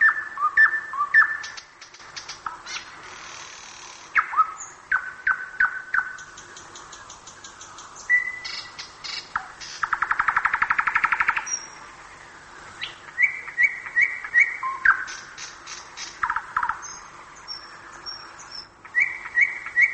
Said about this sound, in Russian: Так вот, смысл ночного пения соловья заключается в том, он сообщает другим самцам своего вида, что здесь удобное место для обитания.